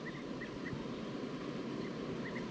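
Several short, high wild bird calls, alarm calls and a flight call, chirp in small clusters at the start and end, fairly faint, from birds high in the top of a eucalyptus tree, over a steady outdoor hiss with no talking.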